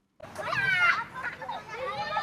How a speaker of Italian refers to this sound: Nel piccolo parco giochi ai piedi della collina i bimbi sono scatenati, saltano, si rincorrono